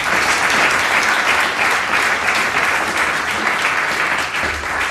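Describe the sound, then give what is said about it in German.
Sustained applause from an audience for a professor, a dense, steady wash of clapping that stays loud and even for the whole stretch without fading, with no voices standing out. “Also nochmal einen riesen, riesen Applaus”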